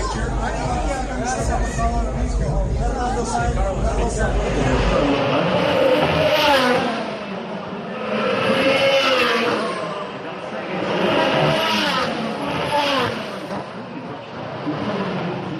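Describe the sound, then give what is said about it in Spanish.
Race cars roar past at over 200 km/h through the second swimming-pool chicane, several loud engine whines swelling and fading one after another over a constant murmur of crowd chatter. “Y eso con este ruido feo que tienen los coches, ¿eh?”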